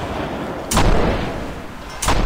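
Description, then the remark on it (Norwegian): Two loud gunshots ring out about a second and a half apart, each a sharp crack followed by a rolling echo that lingers and fades, heard outdoors on the ramparts of Akershus Fortress in Norway, evoking shots fired in 1716, with no talking. “Og lytter vi litt etter, så hører vi faktisk ekkoer fra skuddene den gangen fra 1716.”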